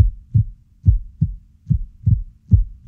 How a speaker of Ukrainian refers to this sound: Серце тримається, стукає в ритмі.